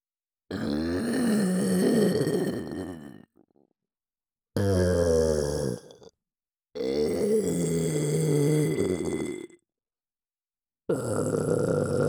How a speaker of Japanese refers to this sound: 耳元エロゲップは、チンポを射精直前に追い込む合図。ああ。 ゲップでお耳が侵されちゃってます。